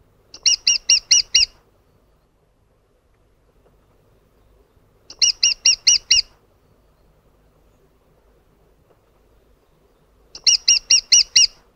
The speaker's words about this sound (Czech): Kromě bubnování se strakapout malý ozývá vysokým, opakovaným ki-ki-ki, které může trochu připomínat zpomalený a vzdálený hlas poštolky či krutihlava.